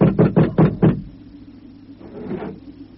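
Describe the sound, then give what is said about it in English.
Five loud, heavy knocks on a door in a quick, even rhythm, followed by a pause and a fainter, muffled shuffling sound. No one speaks. “Official business, I tell you, so open up in there. Open up, do you hear me? Open up!”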